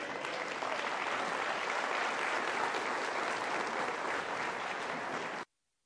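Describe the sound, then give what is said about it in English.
A crowd applauds a sermon steadily, with dense clapping holding a constant loudness for about five and a half seconds before cutting off abruptly into silence. “another round of applause for that incredible message”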